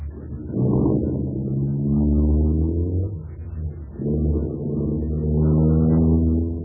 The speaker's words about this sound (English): Oh, I say, he's getting into his car. I wonder what he's up to now. There he goes, sir.